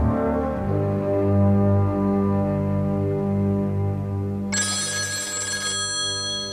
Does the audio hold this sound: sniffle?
no